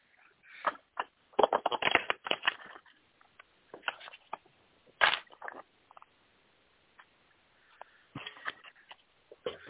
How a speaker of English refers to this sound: Okay, one second. I'm going to shuffle some cards.